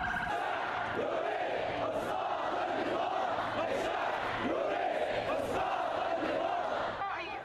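protesters chanting slogans

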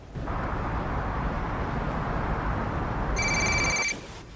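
telephone ringing

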